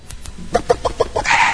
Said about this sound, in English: A chicken, in fact.